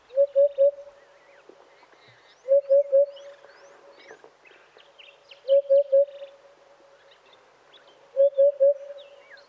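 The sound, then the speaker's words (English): A crested bird in Ireland gives a soft, hollow, cuckoo-like call of three quick notes, repeated four times at steady intervals, with fainter chirps of other birds in the background. “let's have a listen to how the bird sounds.”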